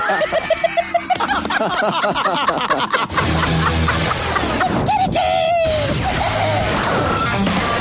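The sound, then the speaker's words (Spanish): A rooster crows within a loud, busy jingle-like mix of clucking and chattering effects for the radio station Radioactiva, with a sudden crash partway through and a drawn-out crowing call after it. “El gallo por Radioactiva.”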